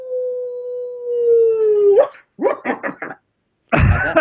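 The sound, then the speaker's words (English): A long, steady hound-style howl holds for about two seconds and then slides down, followed by a quick series of short yelping bursts and a final loud, noisy outburst. “hound dog? This is the howl, yeah.”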